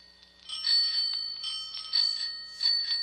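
A phone ringtone made of bicycle bells, several bright metallic rings clustered together, repeating in a quick jangling pattern with sustained high shimmering tones and no talking.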